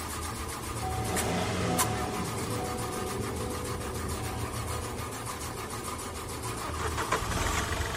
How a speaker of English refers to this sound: It's not gonna go. It's shot. It's running? It's trying. The car chugged and chugged. We were close.